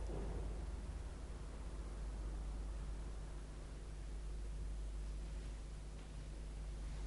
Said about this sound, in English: And you might well be terrified of the clap of thunder. And my dear friend, isn't it true that on a night when there is flash after flash of lightning and clap after clap of thunder, there enters into you an awe?